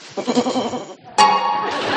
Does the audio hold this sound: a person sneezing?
no